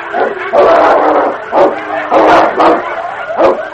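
A great dog and a wolf pack snarl, growl and yelp in a fierce fight to the death amid wind and deep snow, with loud bursts of vicious barking and snapping coming in rapid, overlapping waves.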